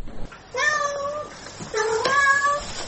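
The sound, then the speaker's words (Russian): A domestic cat meows twice, each call drawn out and tonal, separated by a brief pause, with no voices around it. “Мявкает она по делу.”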